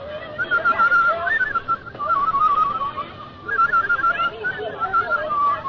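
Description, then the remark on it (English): Someone whistles a wavering, warbling tune, the pitch sliding and trilling in short phrases with brief breaths between, over a faint breathy background and no talking. “I hope I can still whistle.”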